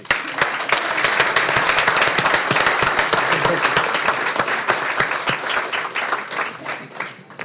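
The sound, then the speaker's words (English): Steady applause from a crowd honoring a county employee's service, dense overlapping claps sustained for several seconds before thinning out toward the end, with faint voices mixed in. “Thank you for your service and dedication to the county, and round of applause.”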